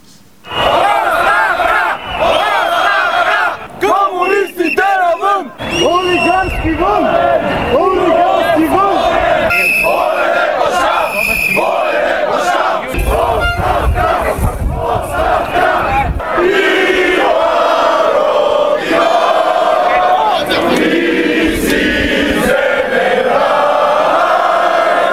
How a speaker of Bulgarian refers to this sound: Освен че скандираха срещу лидерите на политическите формации и парламента, те настояха за нови избори.